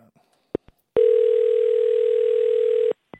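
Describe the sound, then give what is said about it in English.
A steady telephone dial tone hums for about two seconds as someone phones the head of rock, bracketed by a few sharp clicks of a handset or buttons, clear with no talking. “I'll call the head of rock. Hang on a second.”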